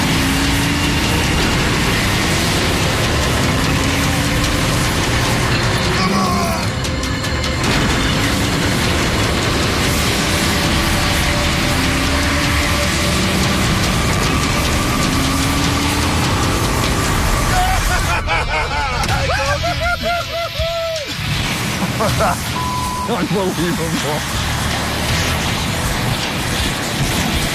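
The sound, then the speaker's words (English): A truck that ran off the road coming around a corner is yanked out of a ditch after a couple of hits: a loud, heavy engine roars and strains steadily, then revs with rising and falling whines near the end, with faint muffled voices underneath. “He yanked it out of there. Took me a couple hits on her, but she done it.”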